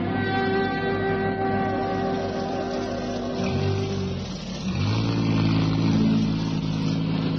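A utility vehicle engine hums steadily in the rain, its pitch dipping as it slows and shifts around the middle, then rising again as it pulls in alongside a car, with a constant rushing noise underneath.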